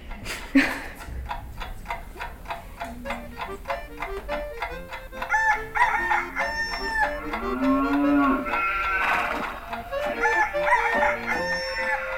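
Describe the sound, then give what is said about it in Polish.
A rooster crows repeatedly amid a busy farmyard at a museum farmstead, with other livestock calling, including a low cow-like moo, all fairly loud, with no talking. “Nie sztuka wejść i tak na smutno przejść do muzeum, a jak zaszczeka piesek, zarży konik czy kogut zapieje, to ożywia się gospodarstwo.”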